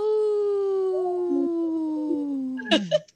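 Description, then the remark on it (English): A person imitates a wolf howl: one long, steady, slightly falling vocal tone held for nearly three seconds, somewhat subdued, ending in a brief breathy burst. “that was a weak howl.”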